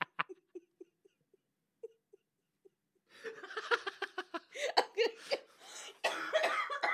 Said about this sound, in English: I'm sorry, I've got a little bit of a cough, so if I laugh too much, I choke.